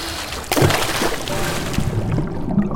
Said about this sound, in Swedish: Då åker du rakt ner i Karmafallet. Vattnet. Det suger runt fötterna. Det kittlar.